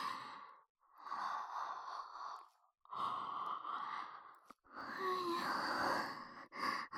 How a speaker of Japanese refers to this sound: 私もあくび映っちゃった。